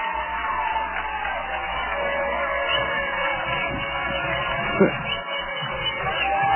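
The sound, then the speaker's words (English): A large stadium crowd at Martin Stadium roars and cheers steadily as a high school football game ends in a 31-12 win for the Lowndes Vikings, a dense wall of voices and shouts with one brief louder whoop near the end. “Listen to this crowd.”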